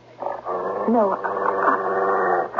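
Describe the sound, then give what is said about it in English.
A dog growls and whimpers, a continuous strained vocalization with a rising whine partway through, lasting a couple of seconds without pause. “Even if I did, the dog. We simply can't expect him to stay quiet like this indefinitely.”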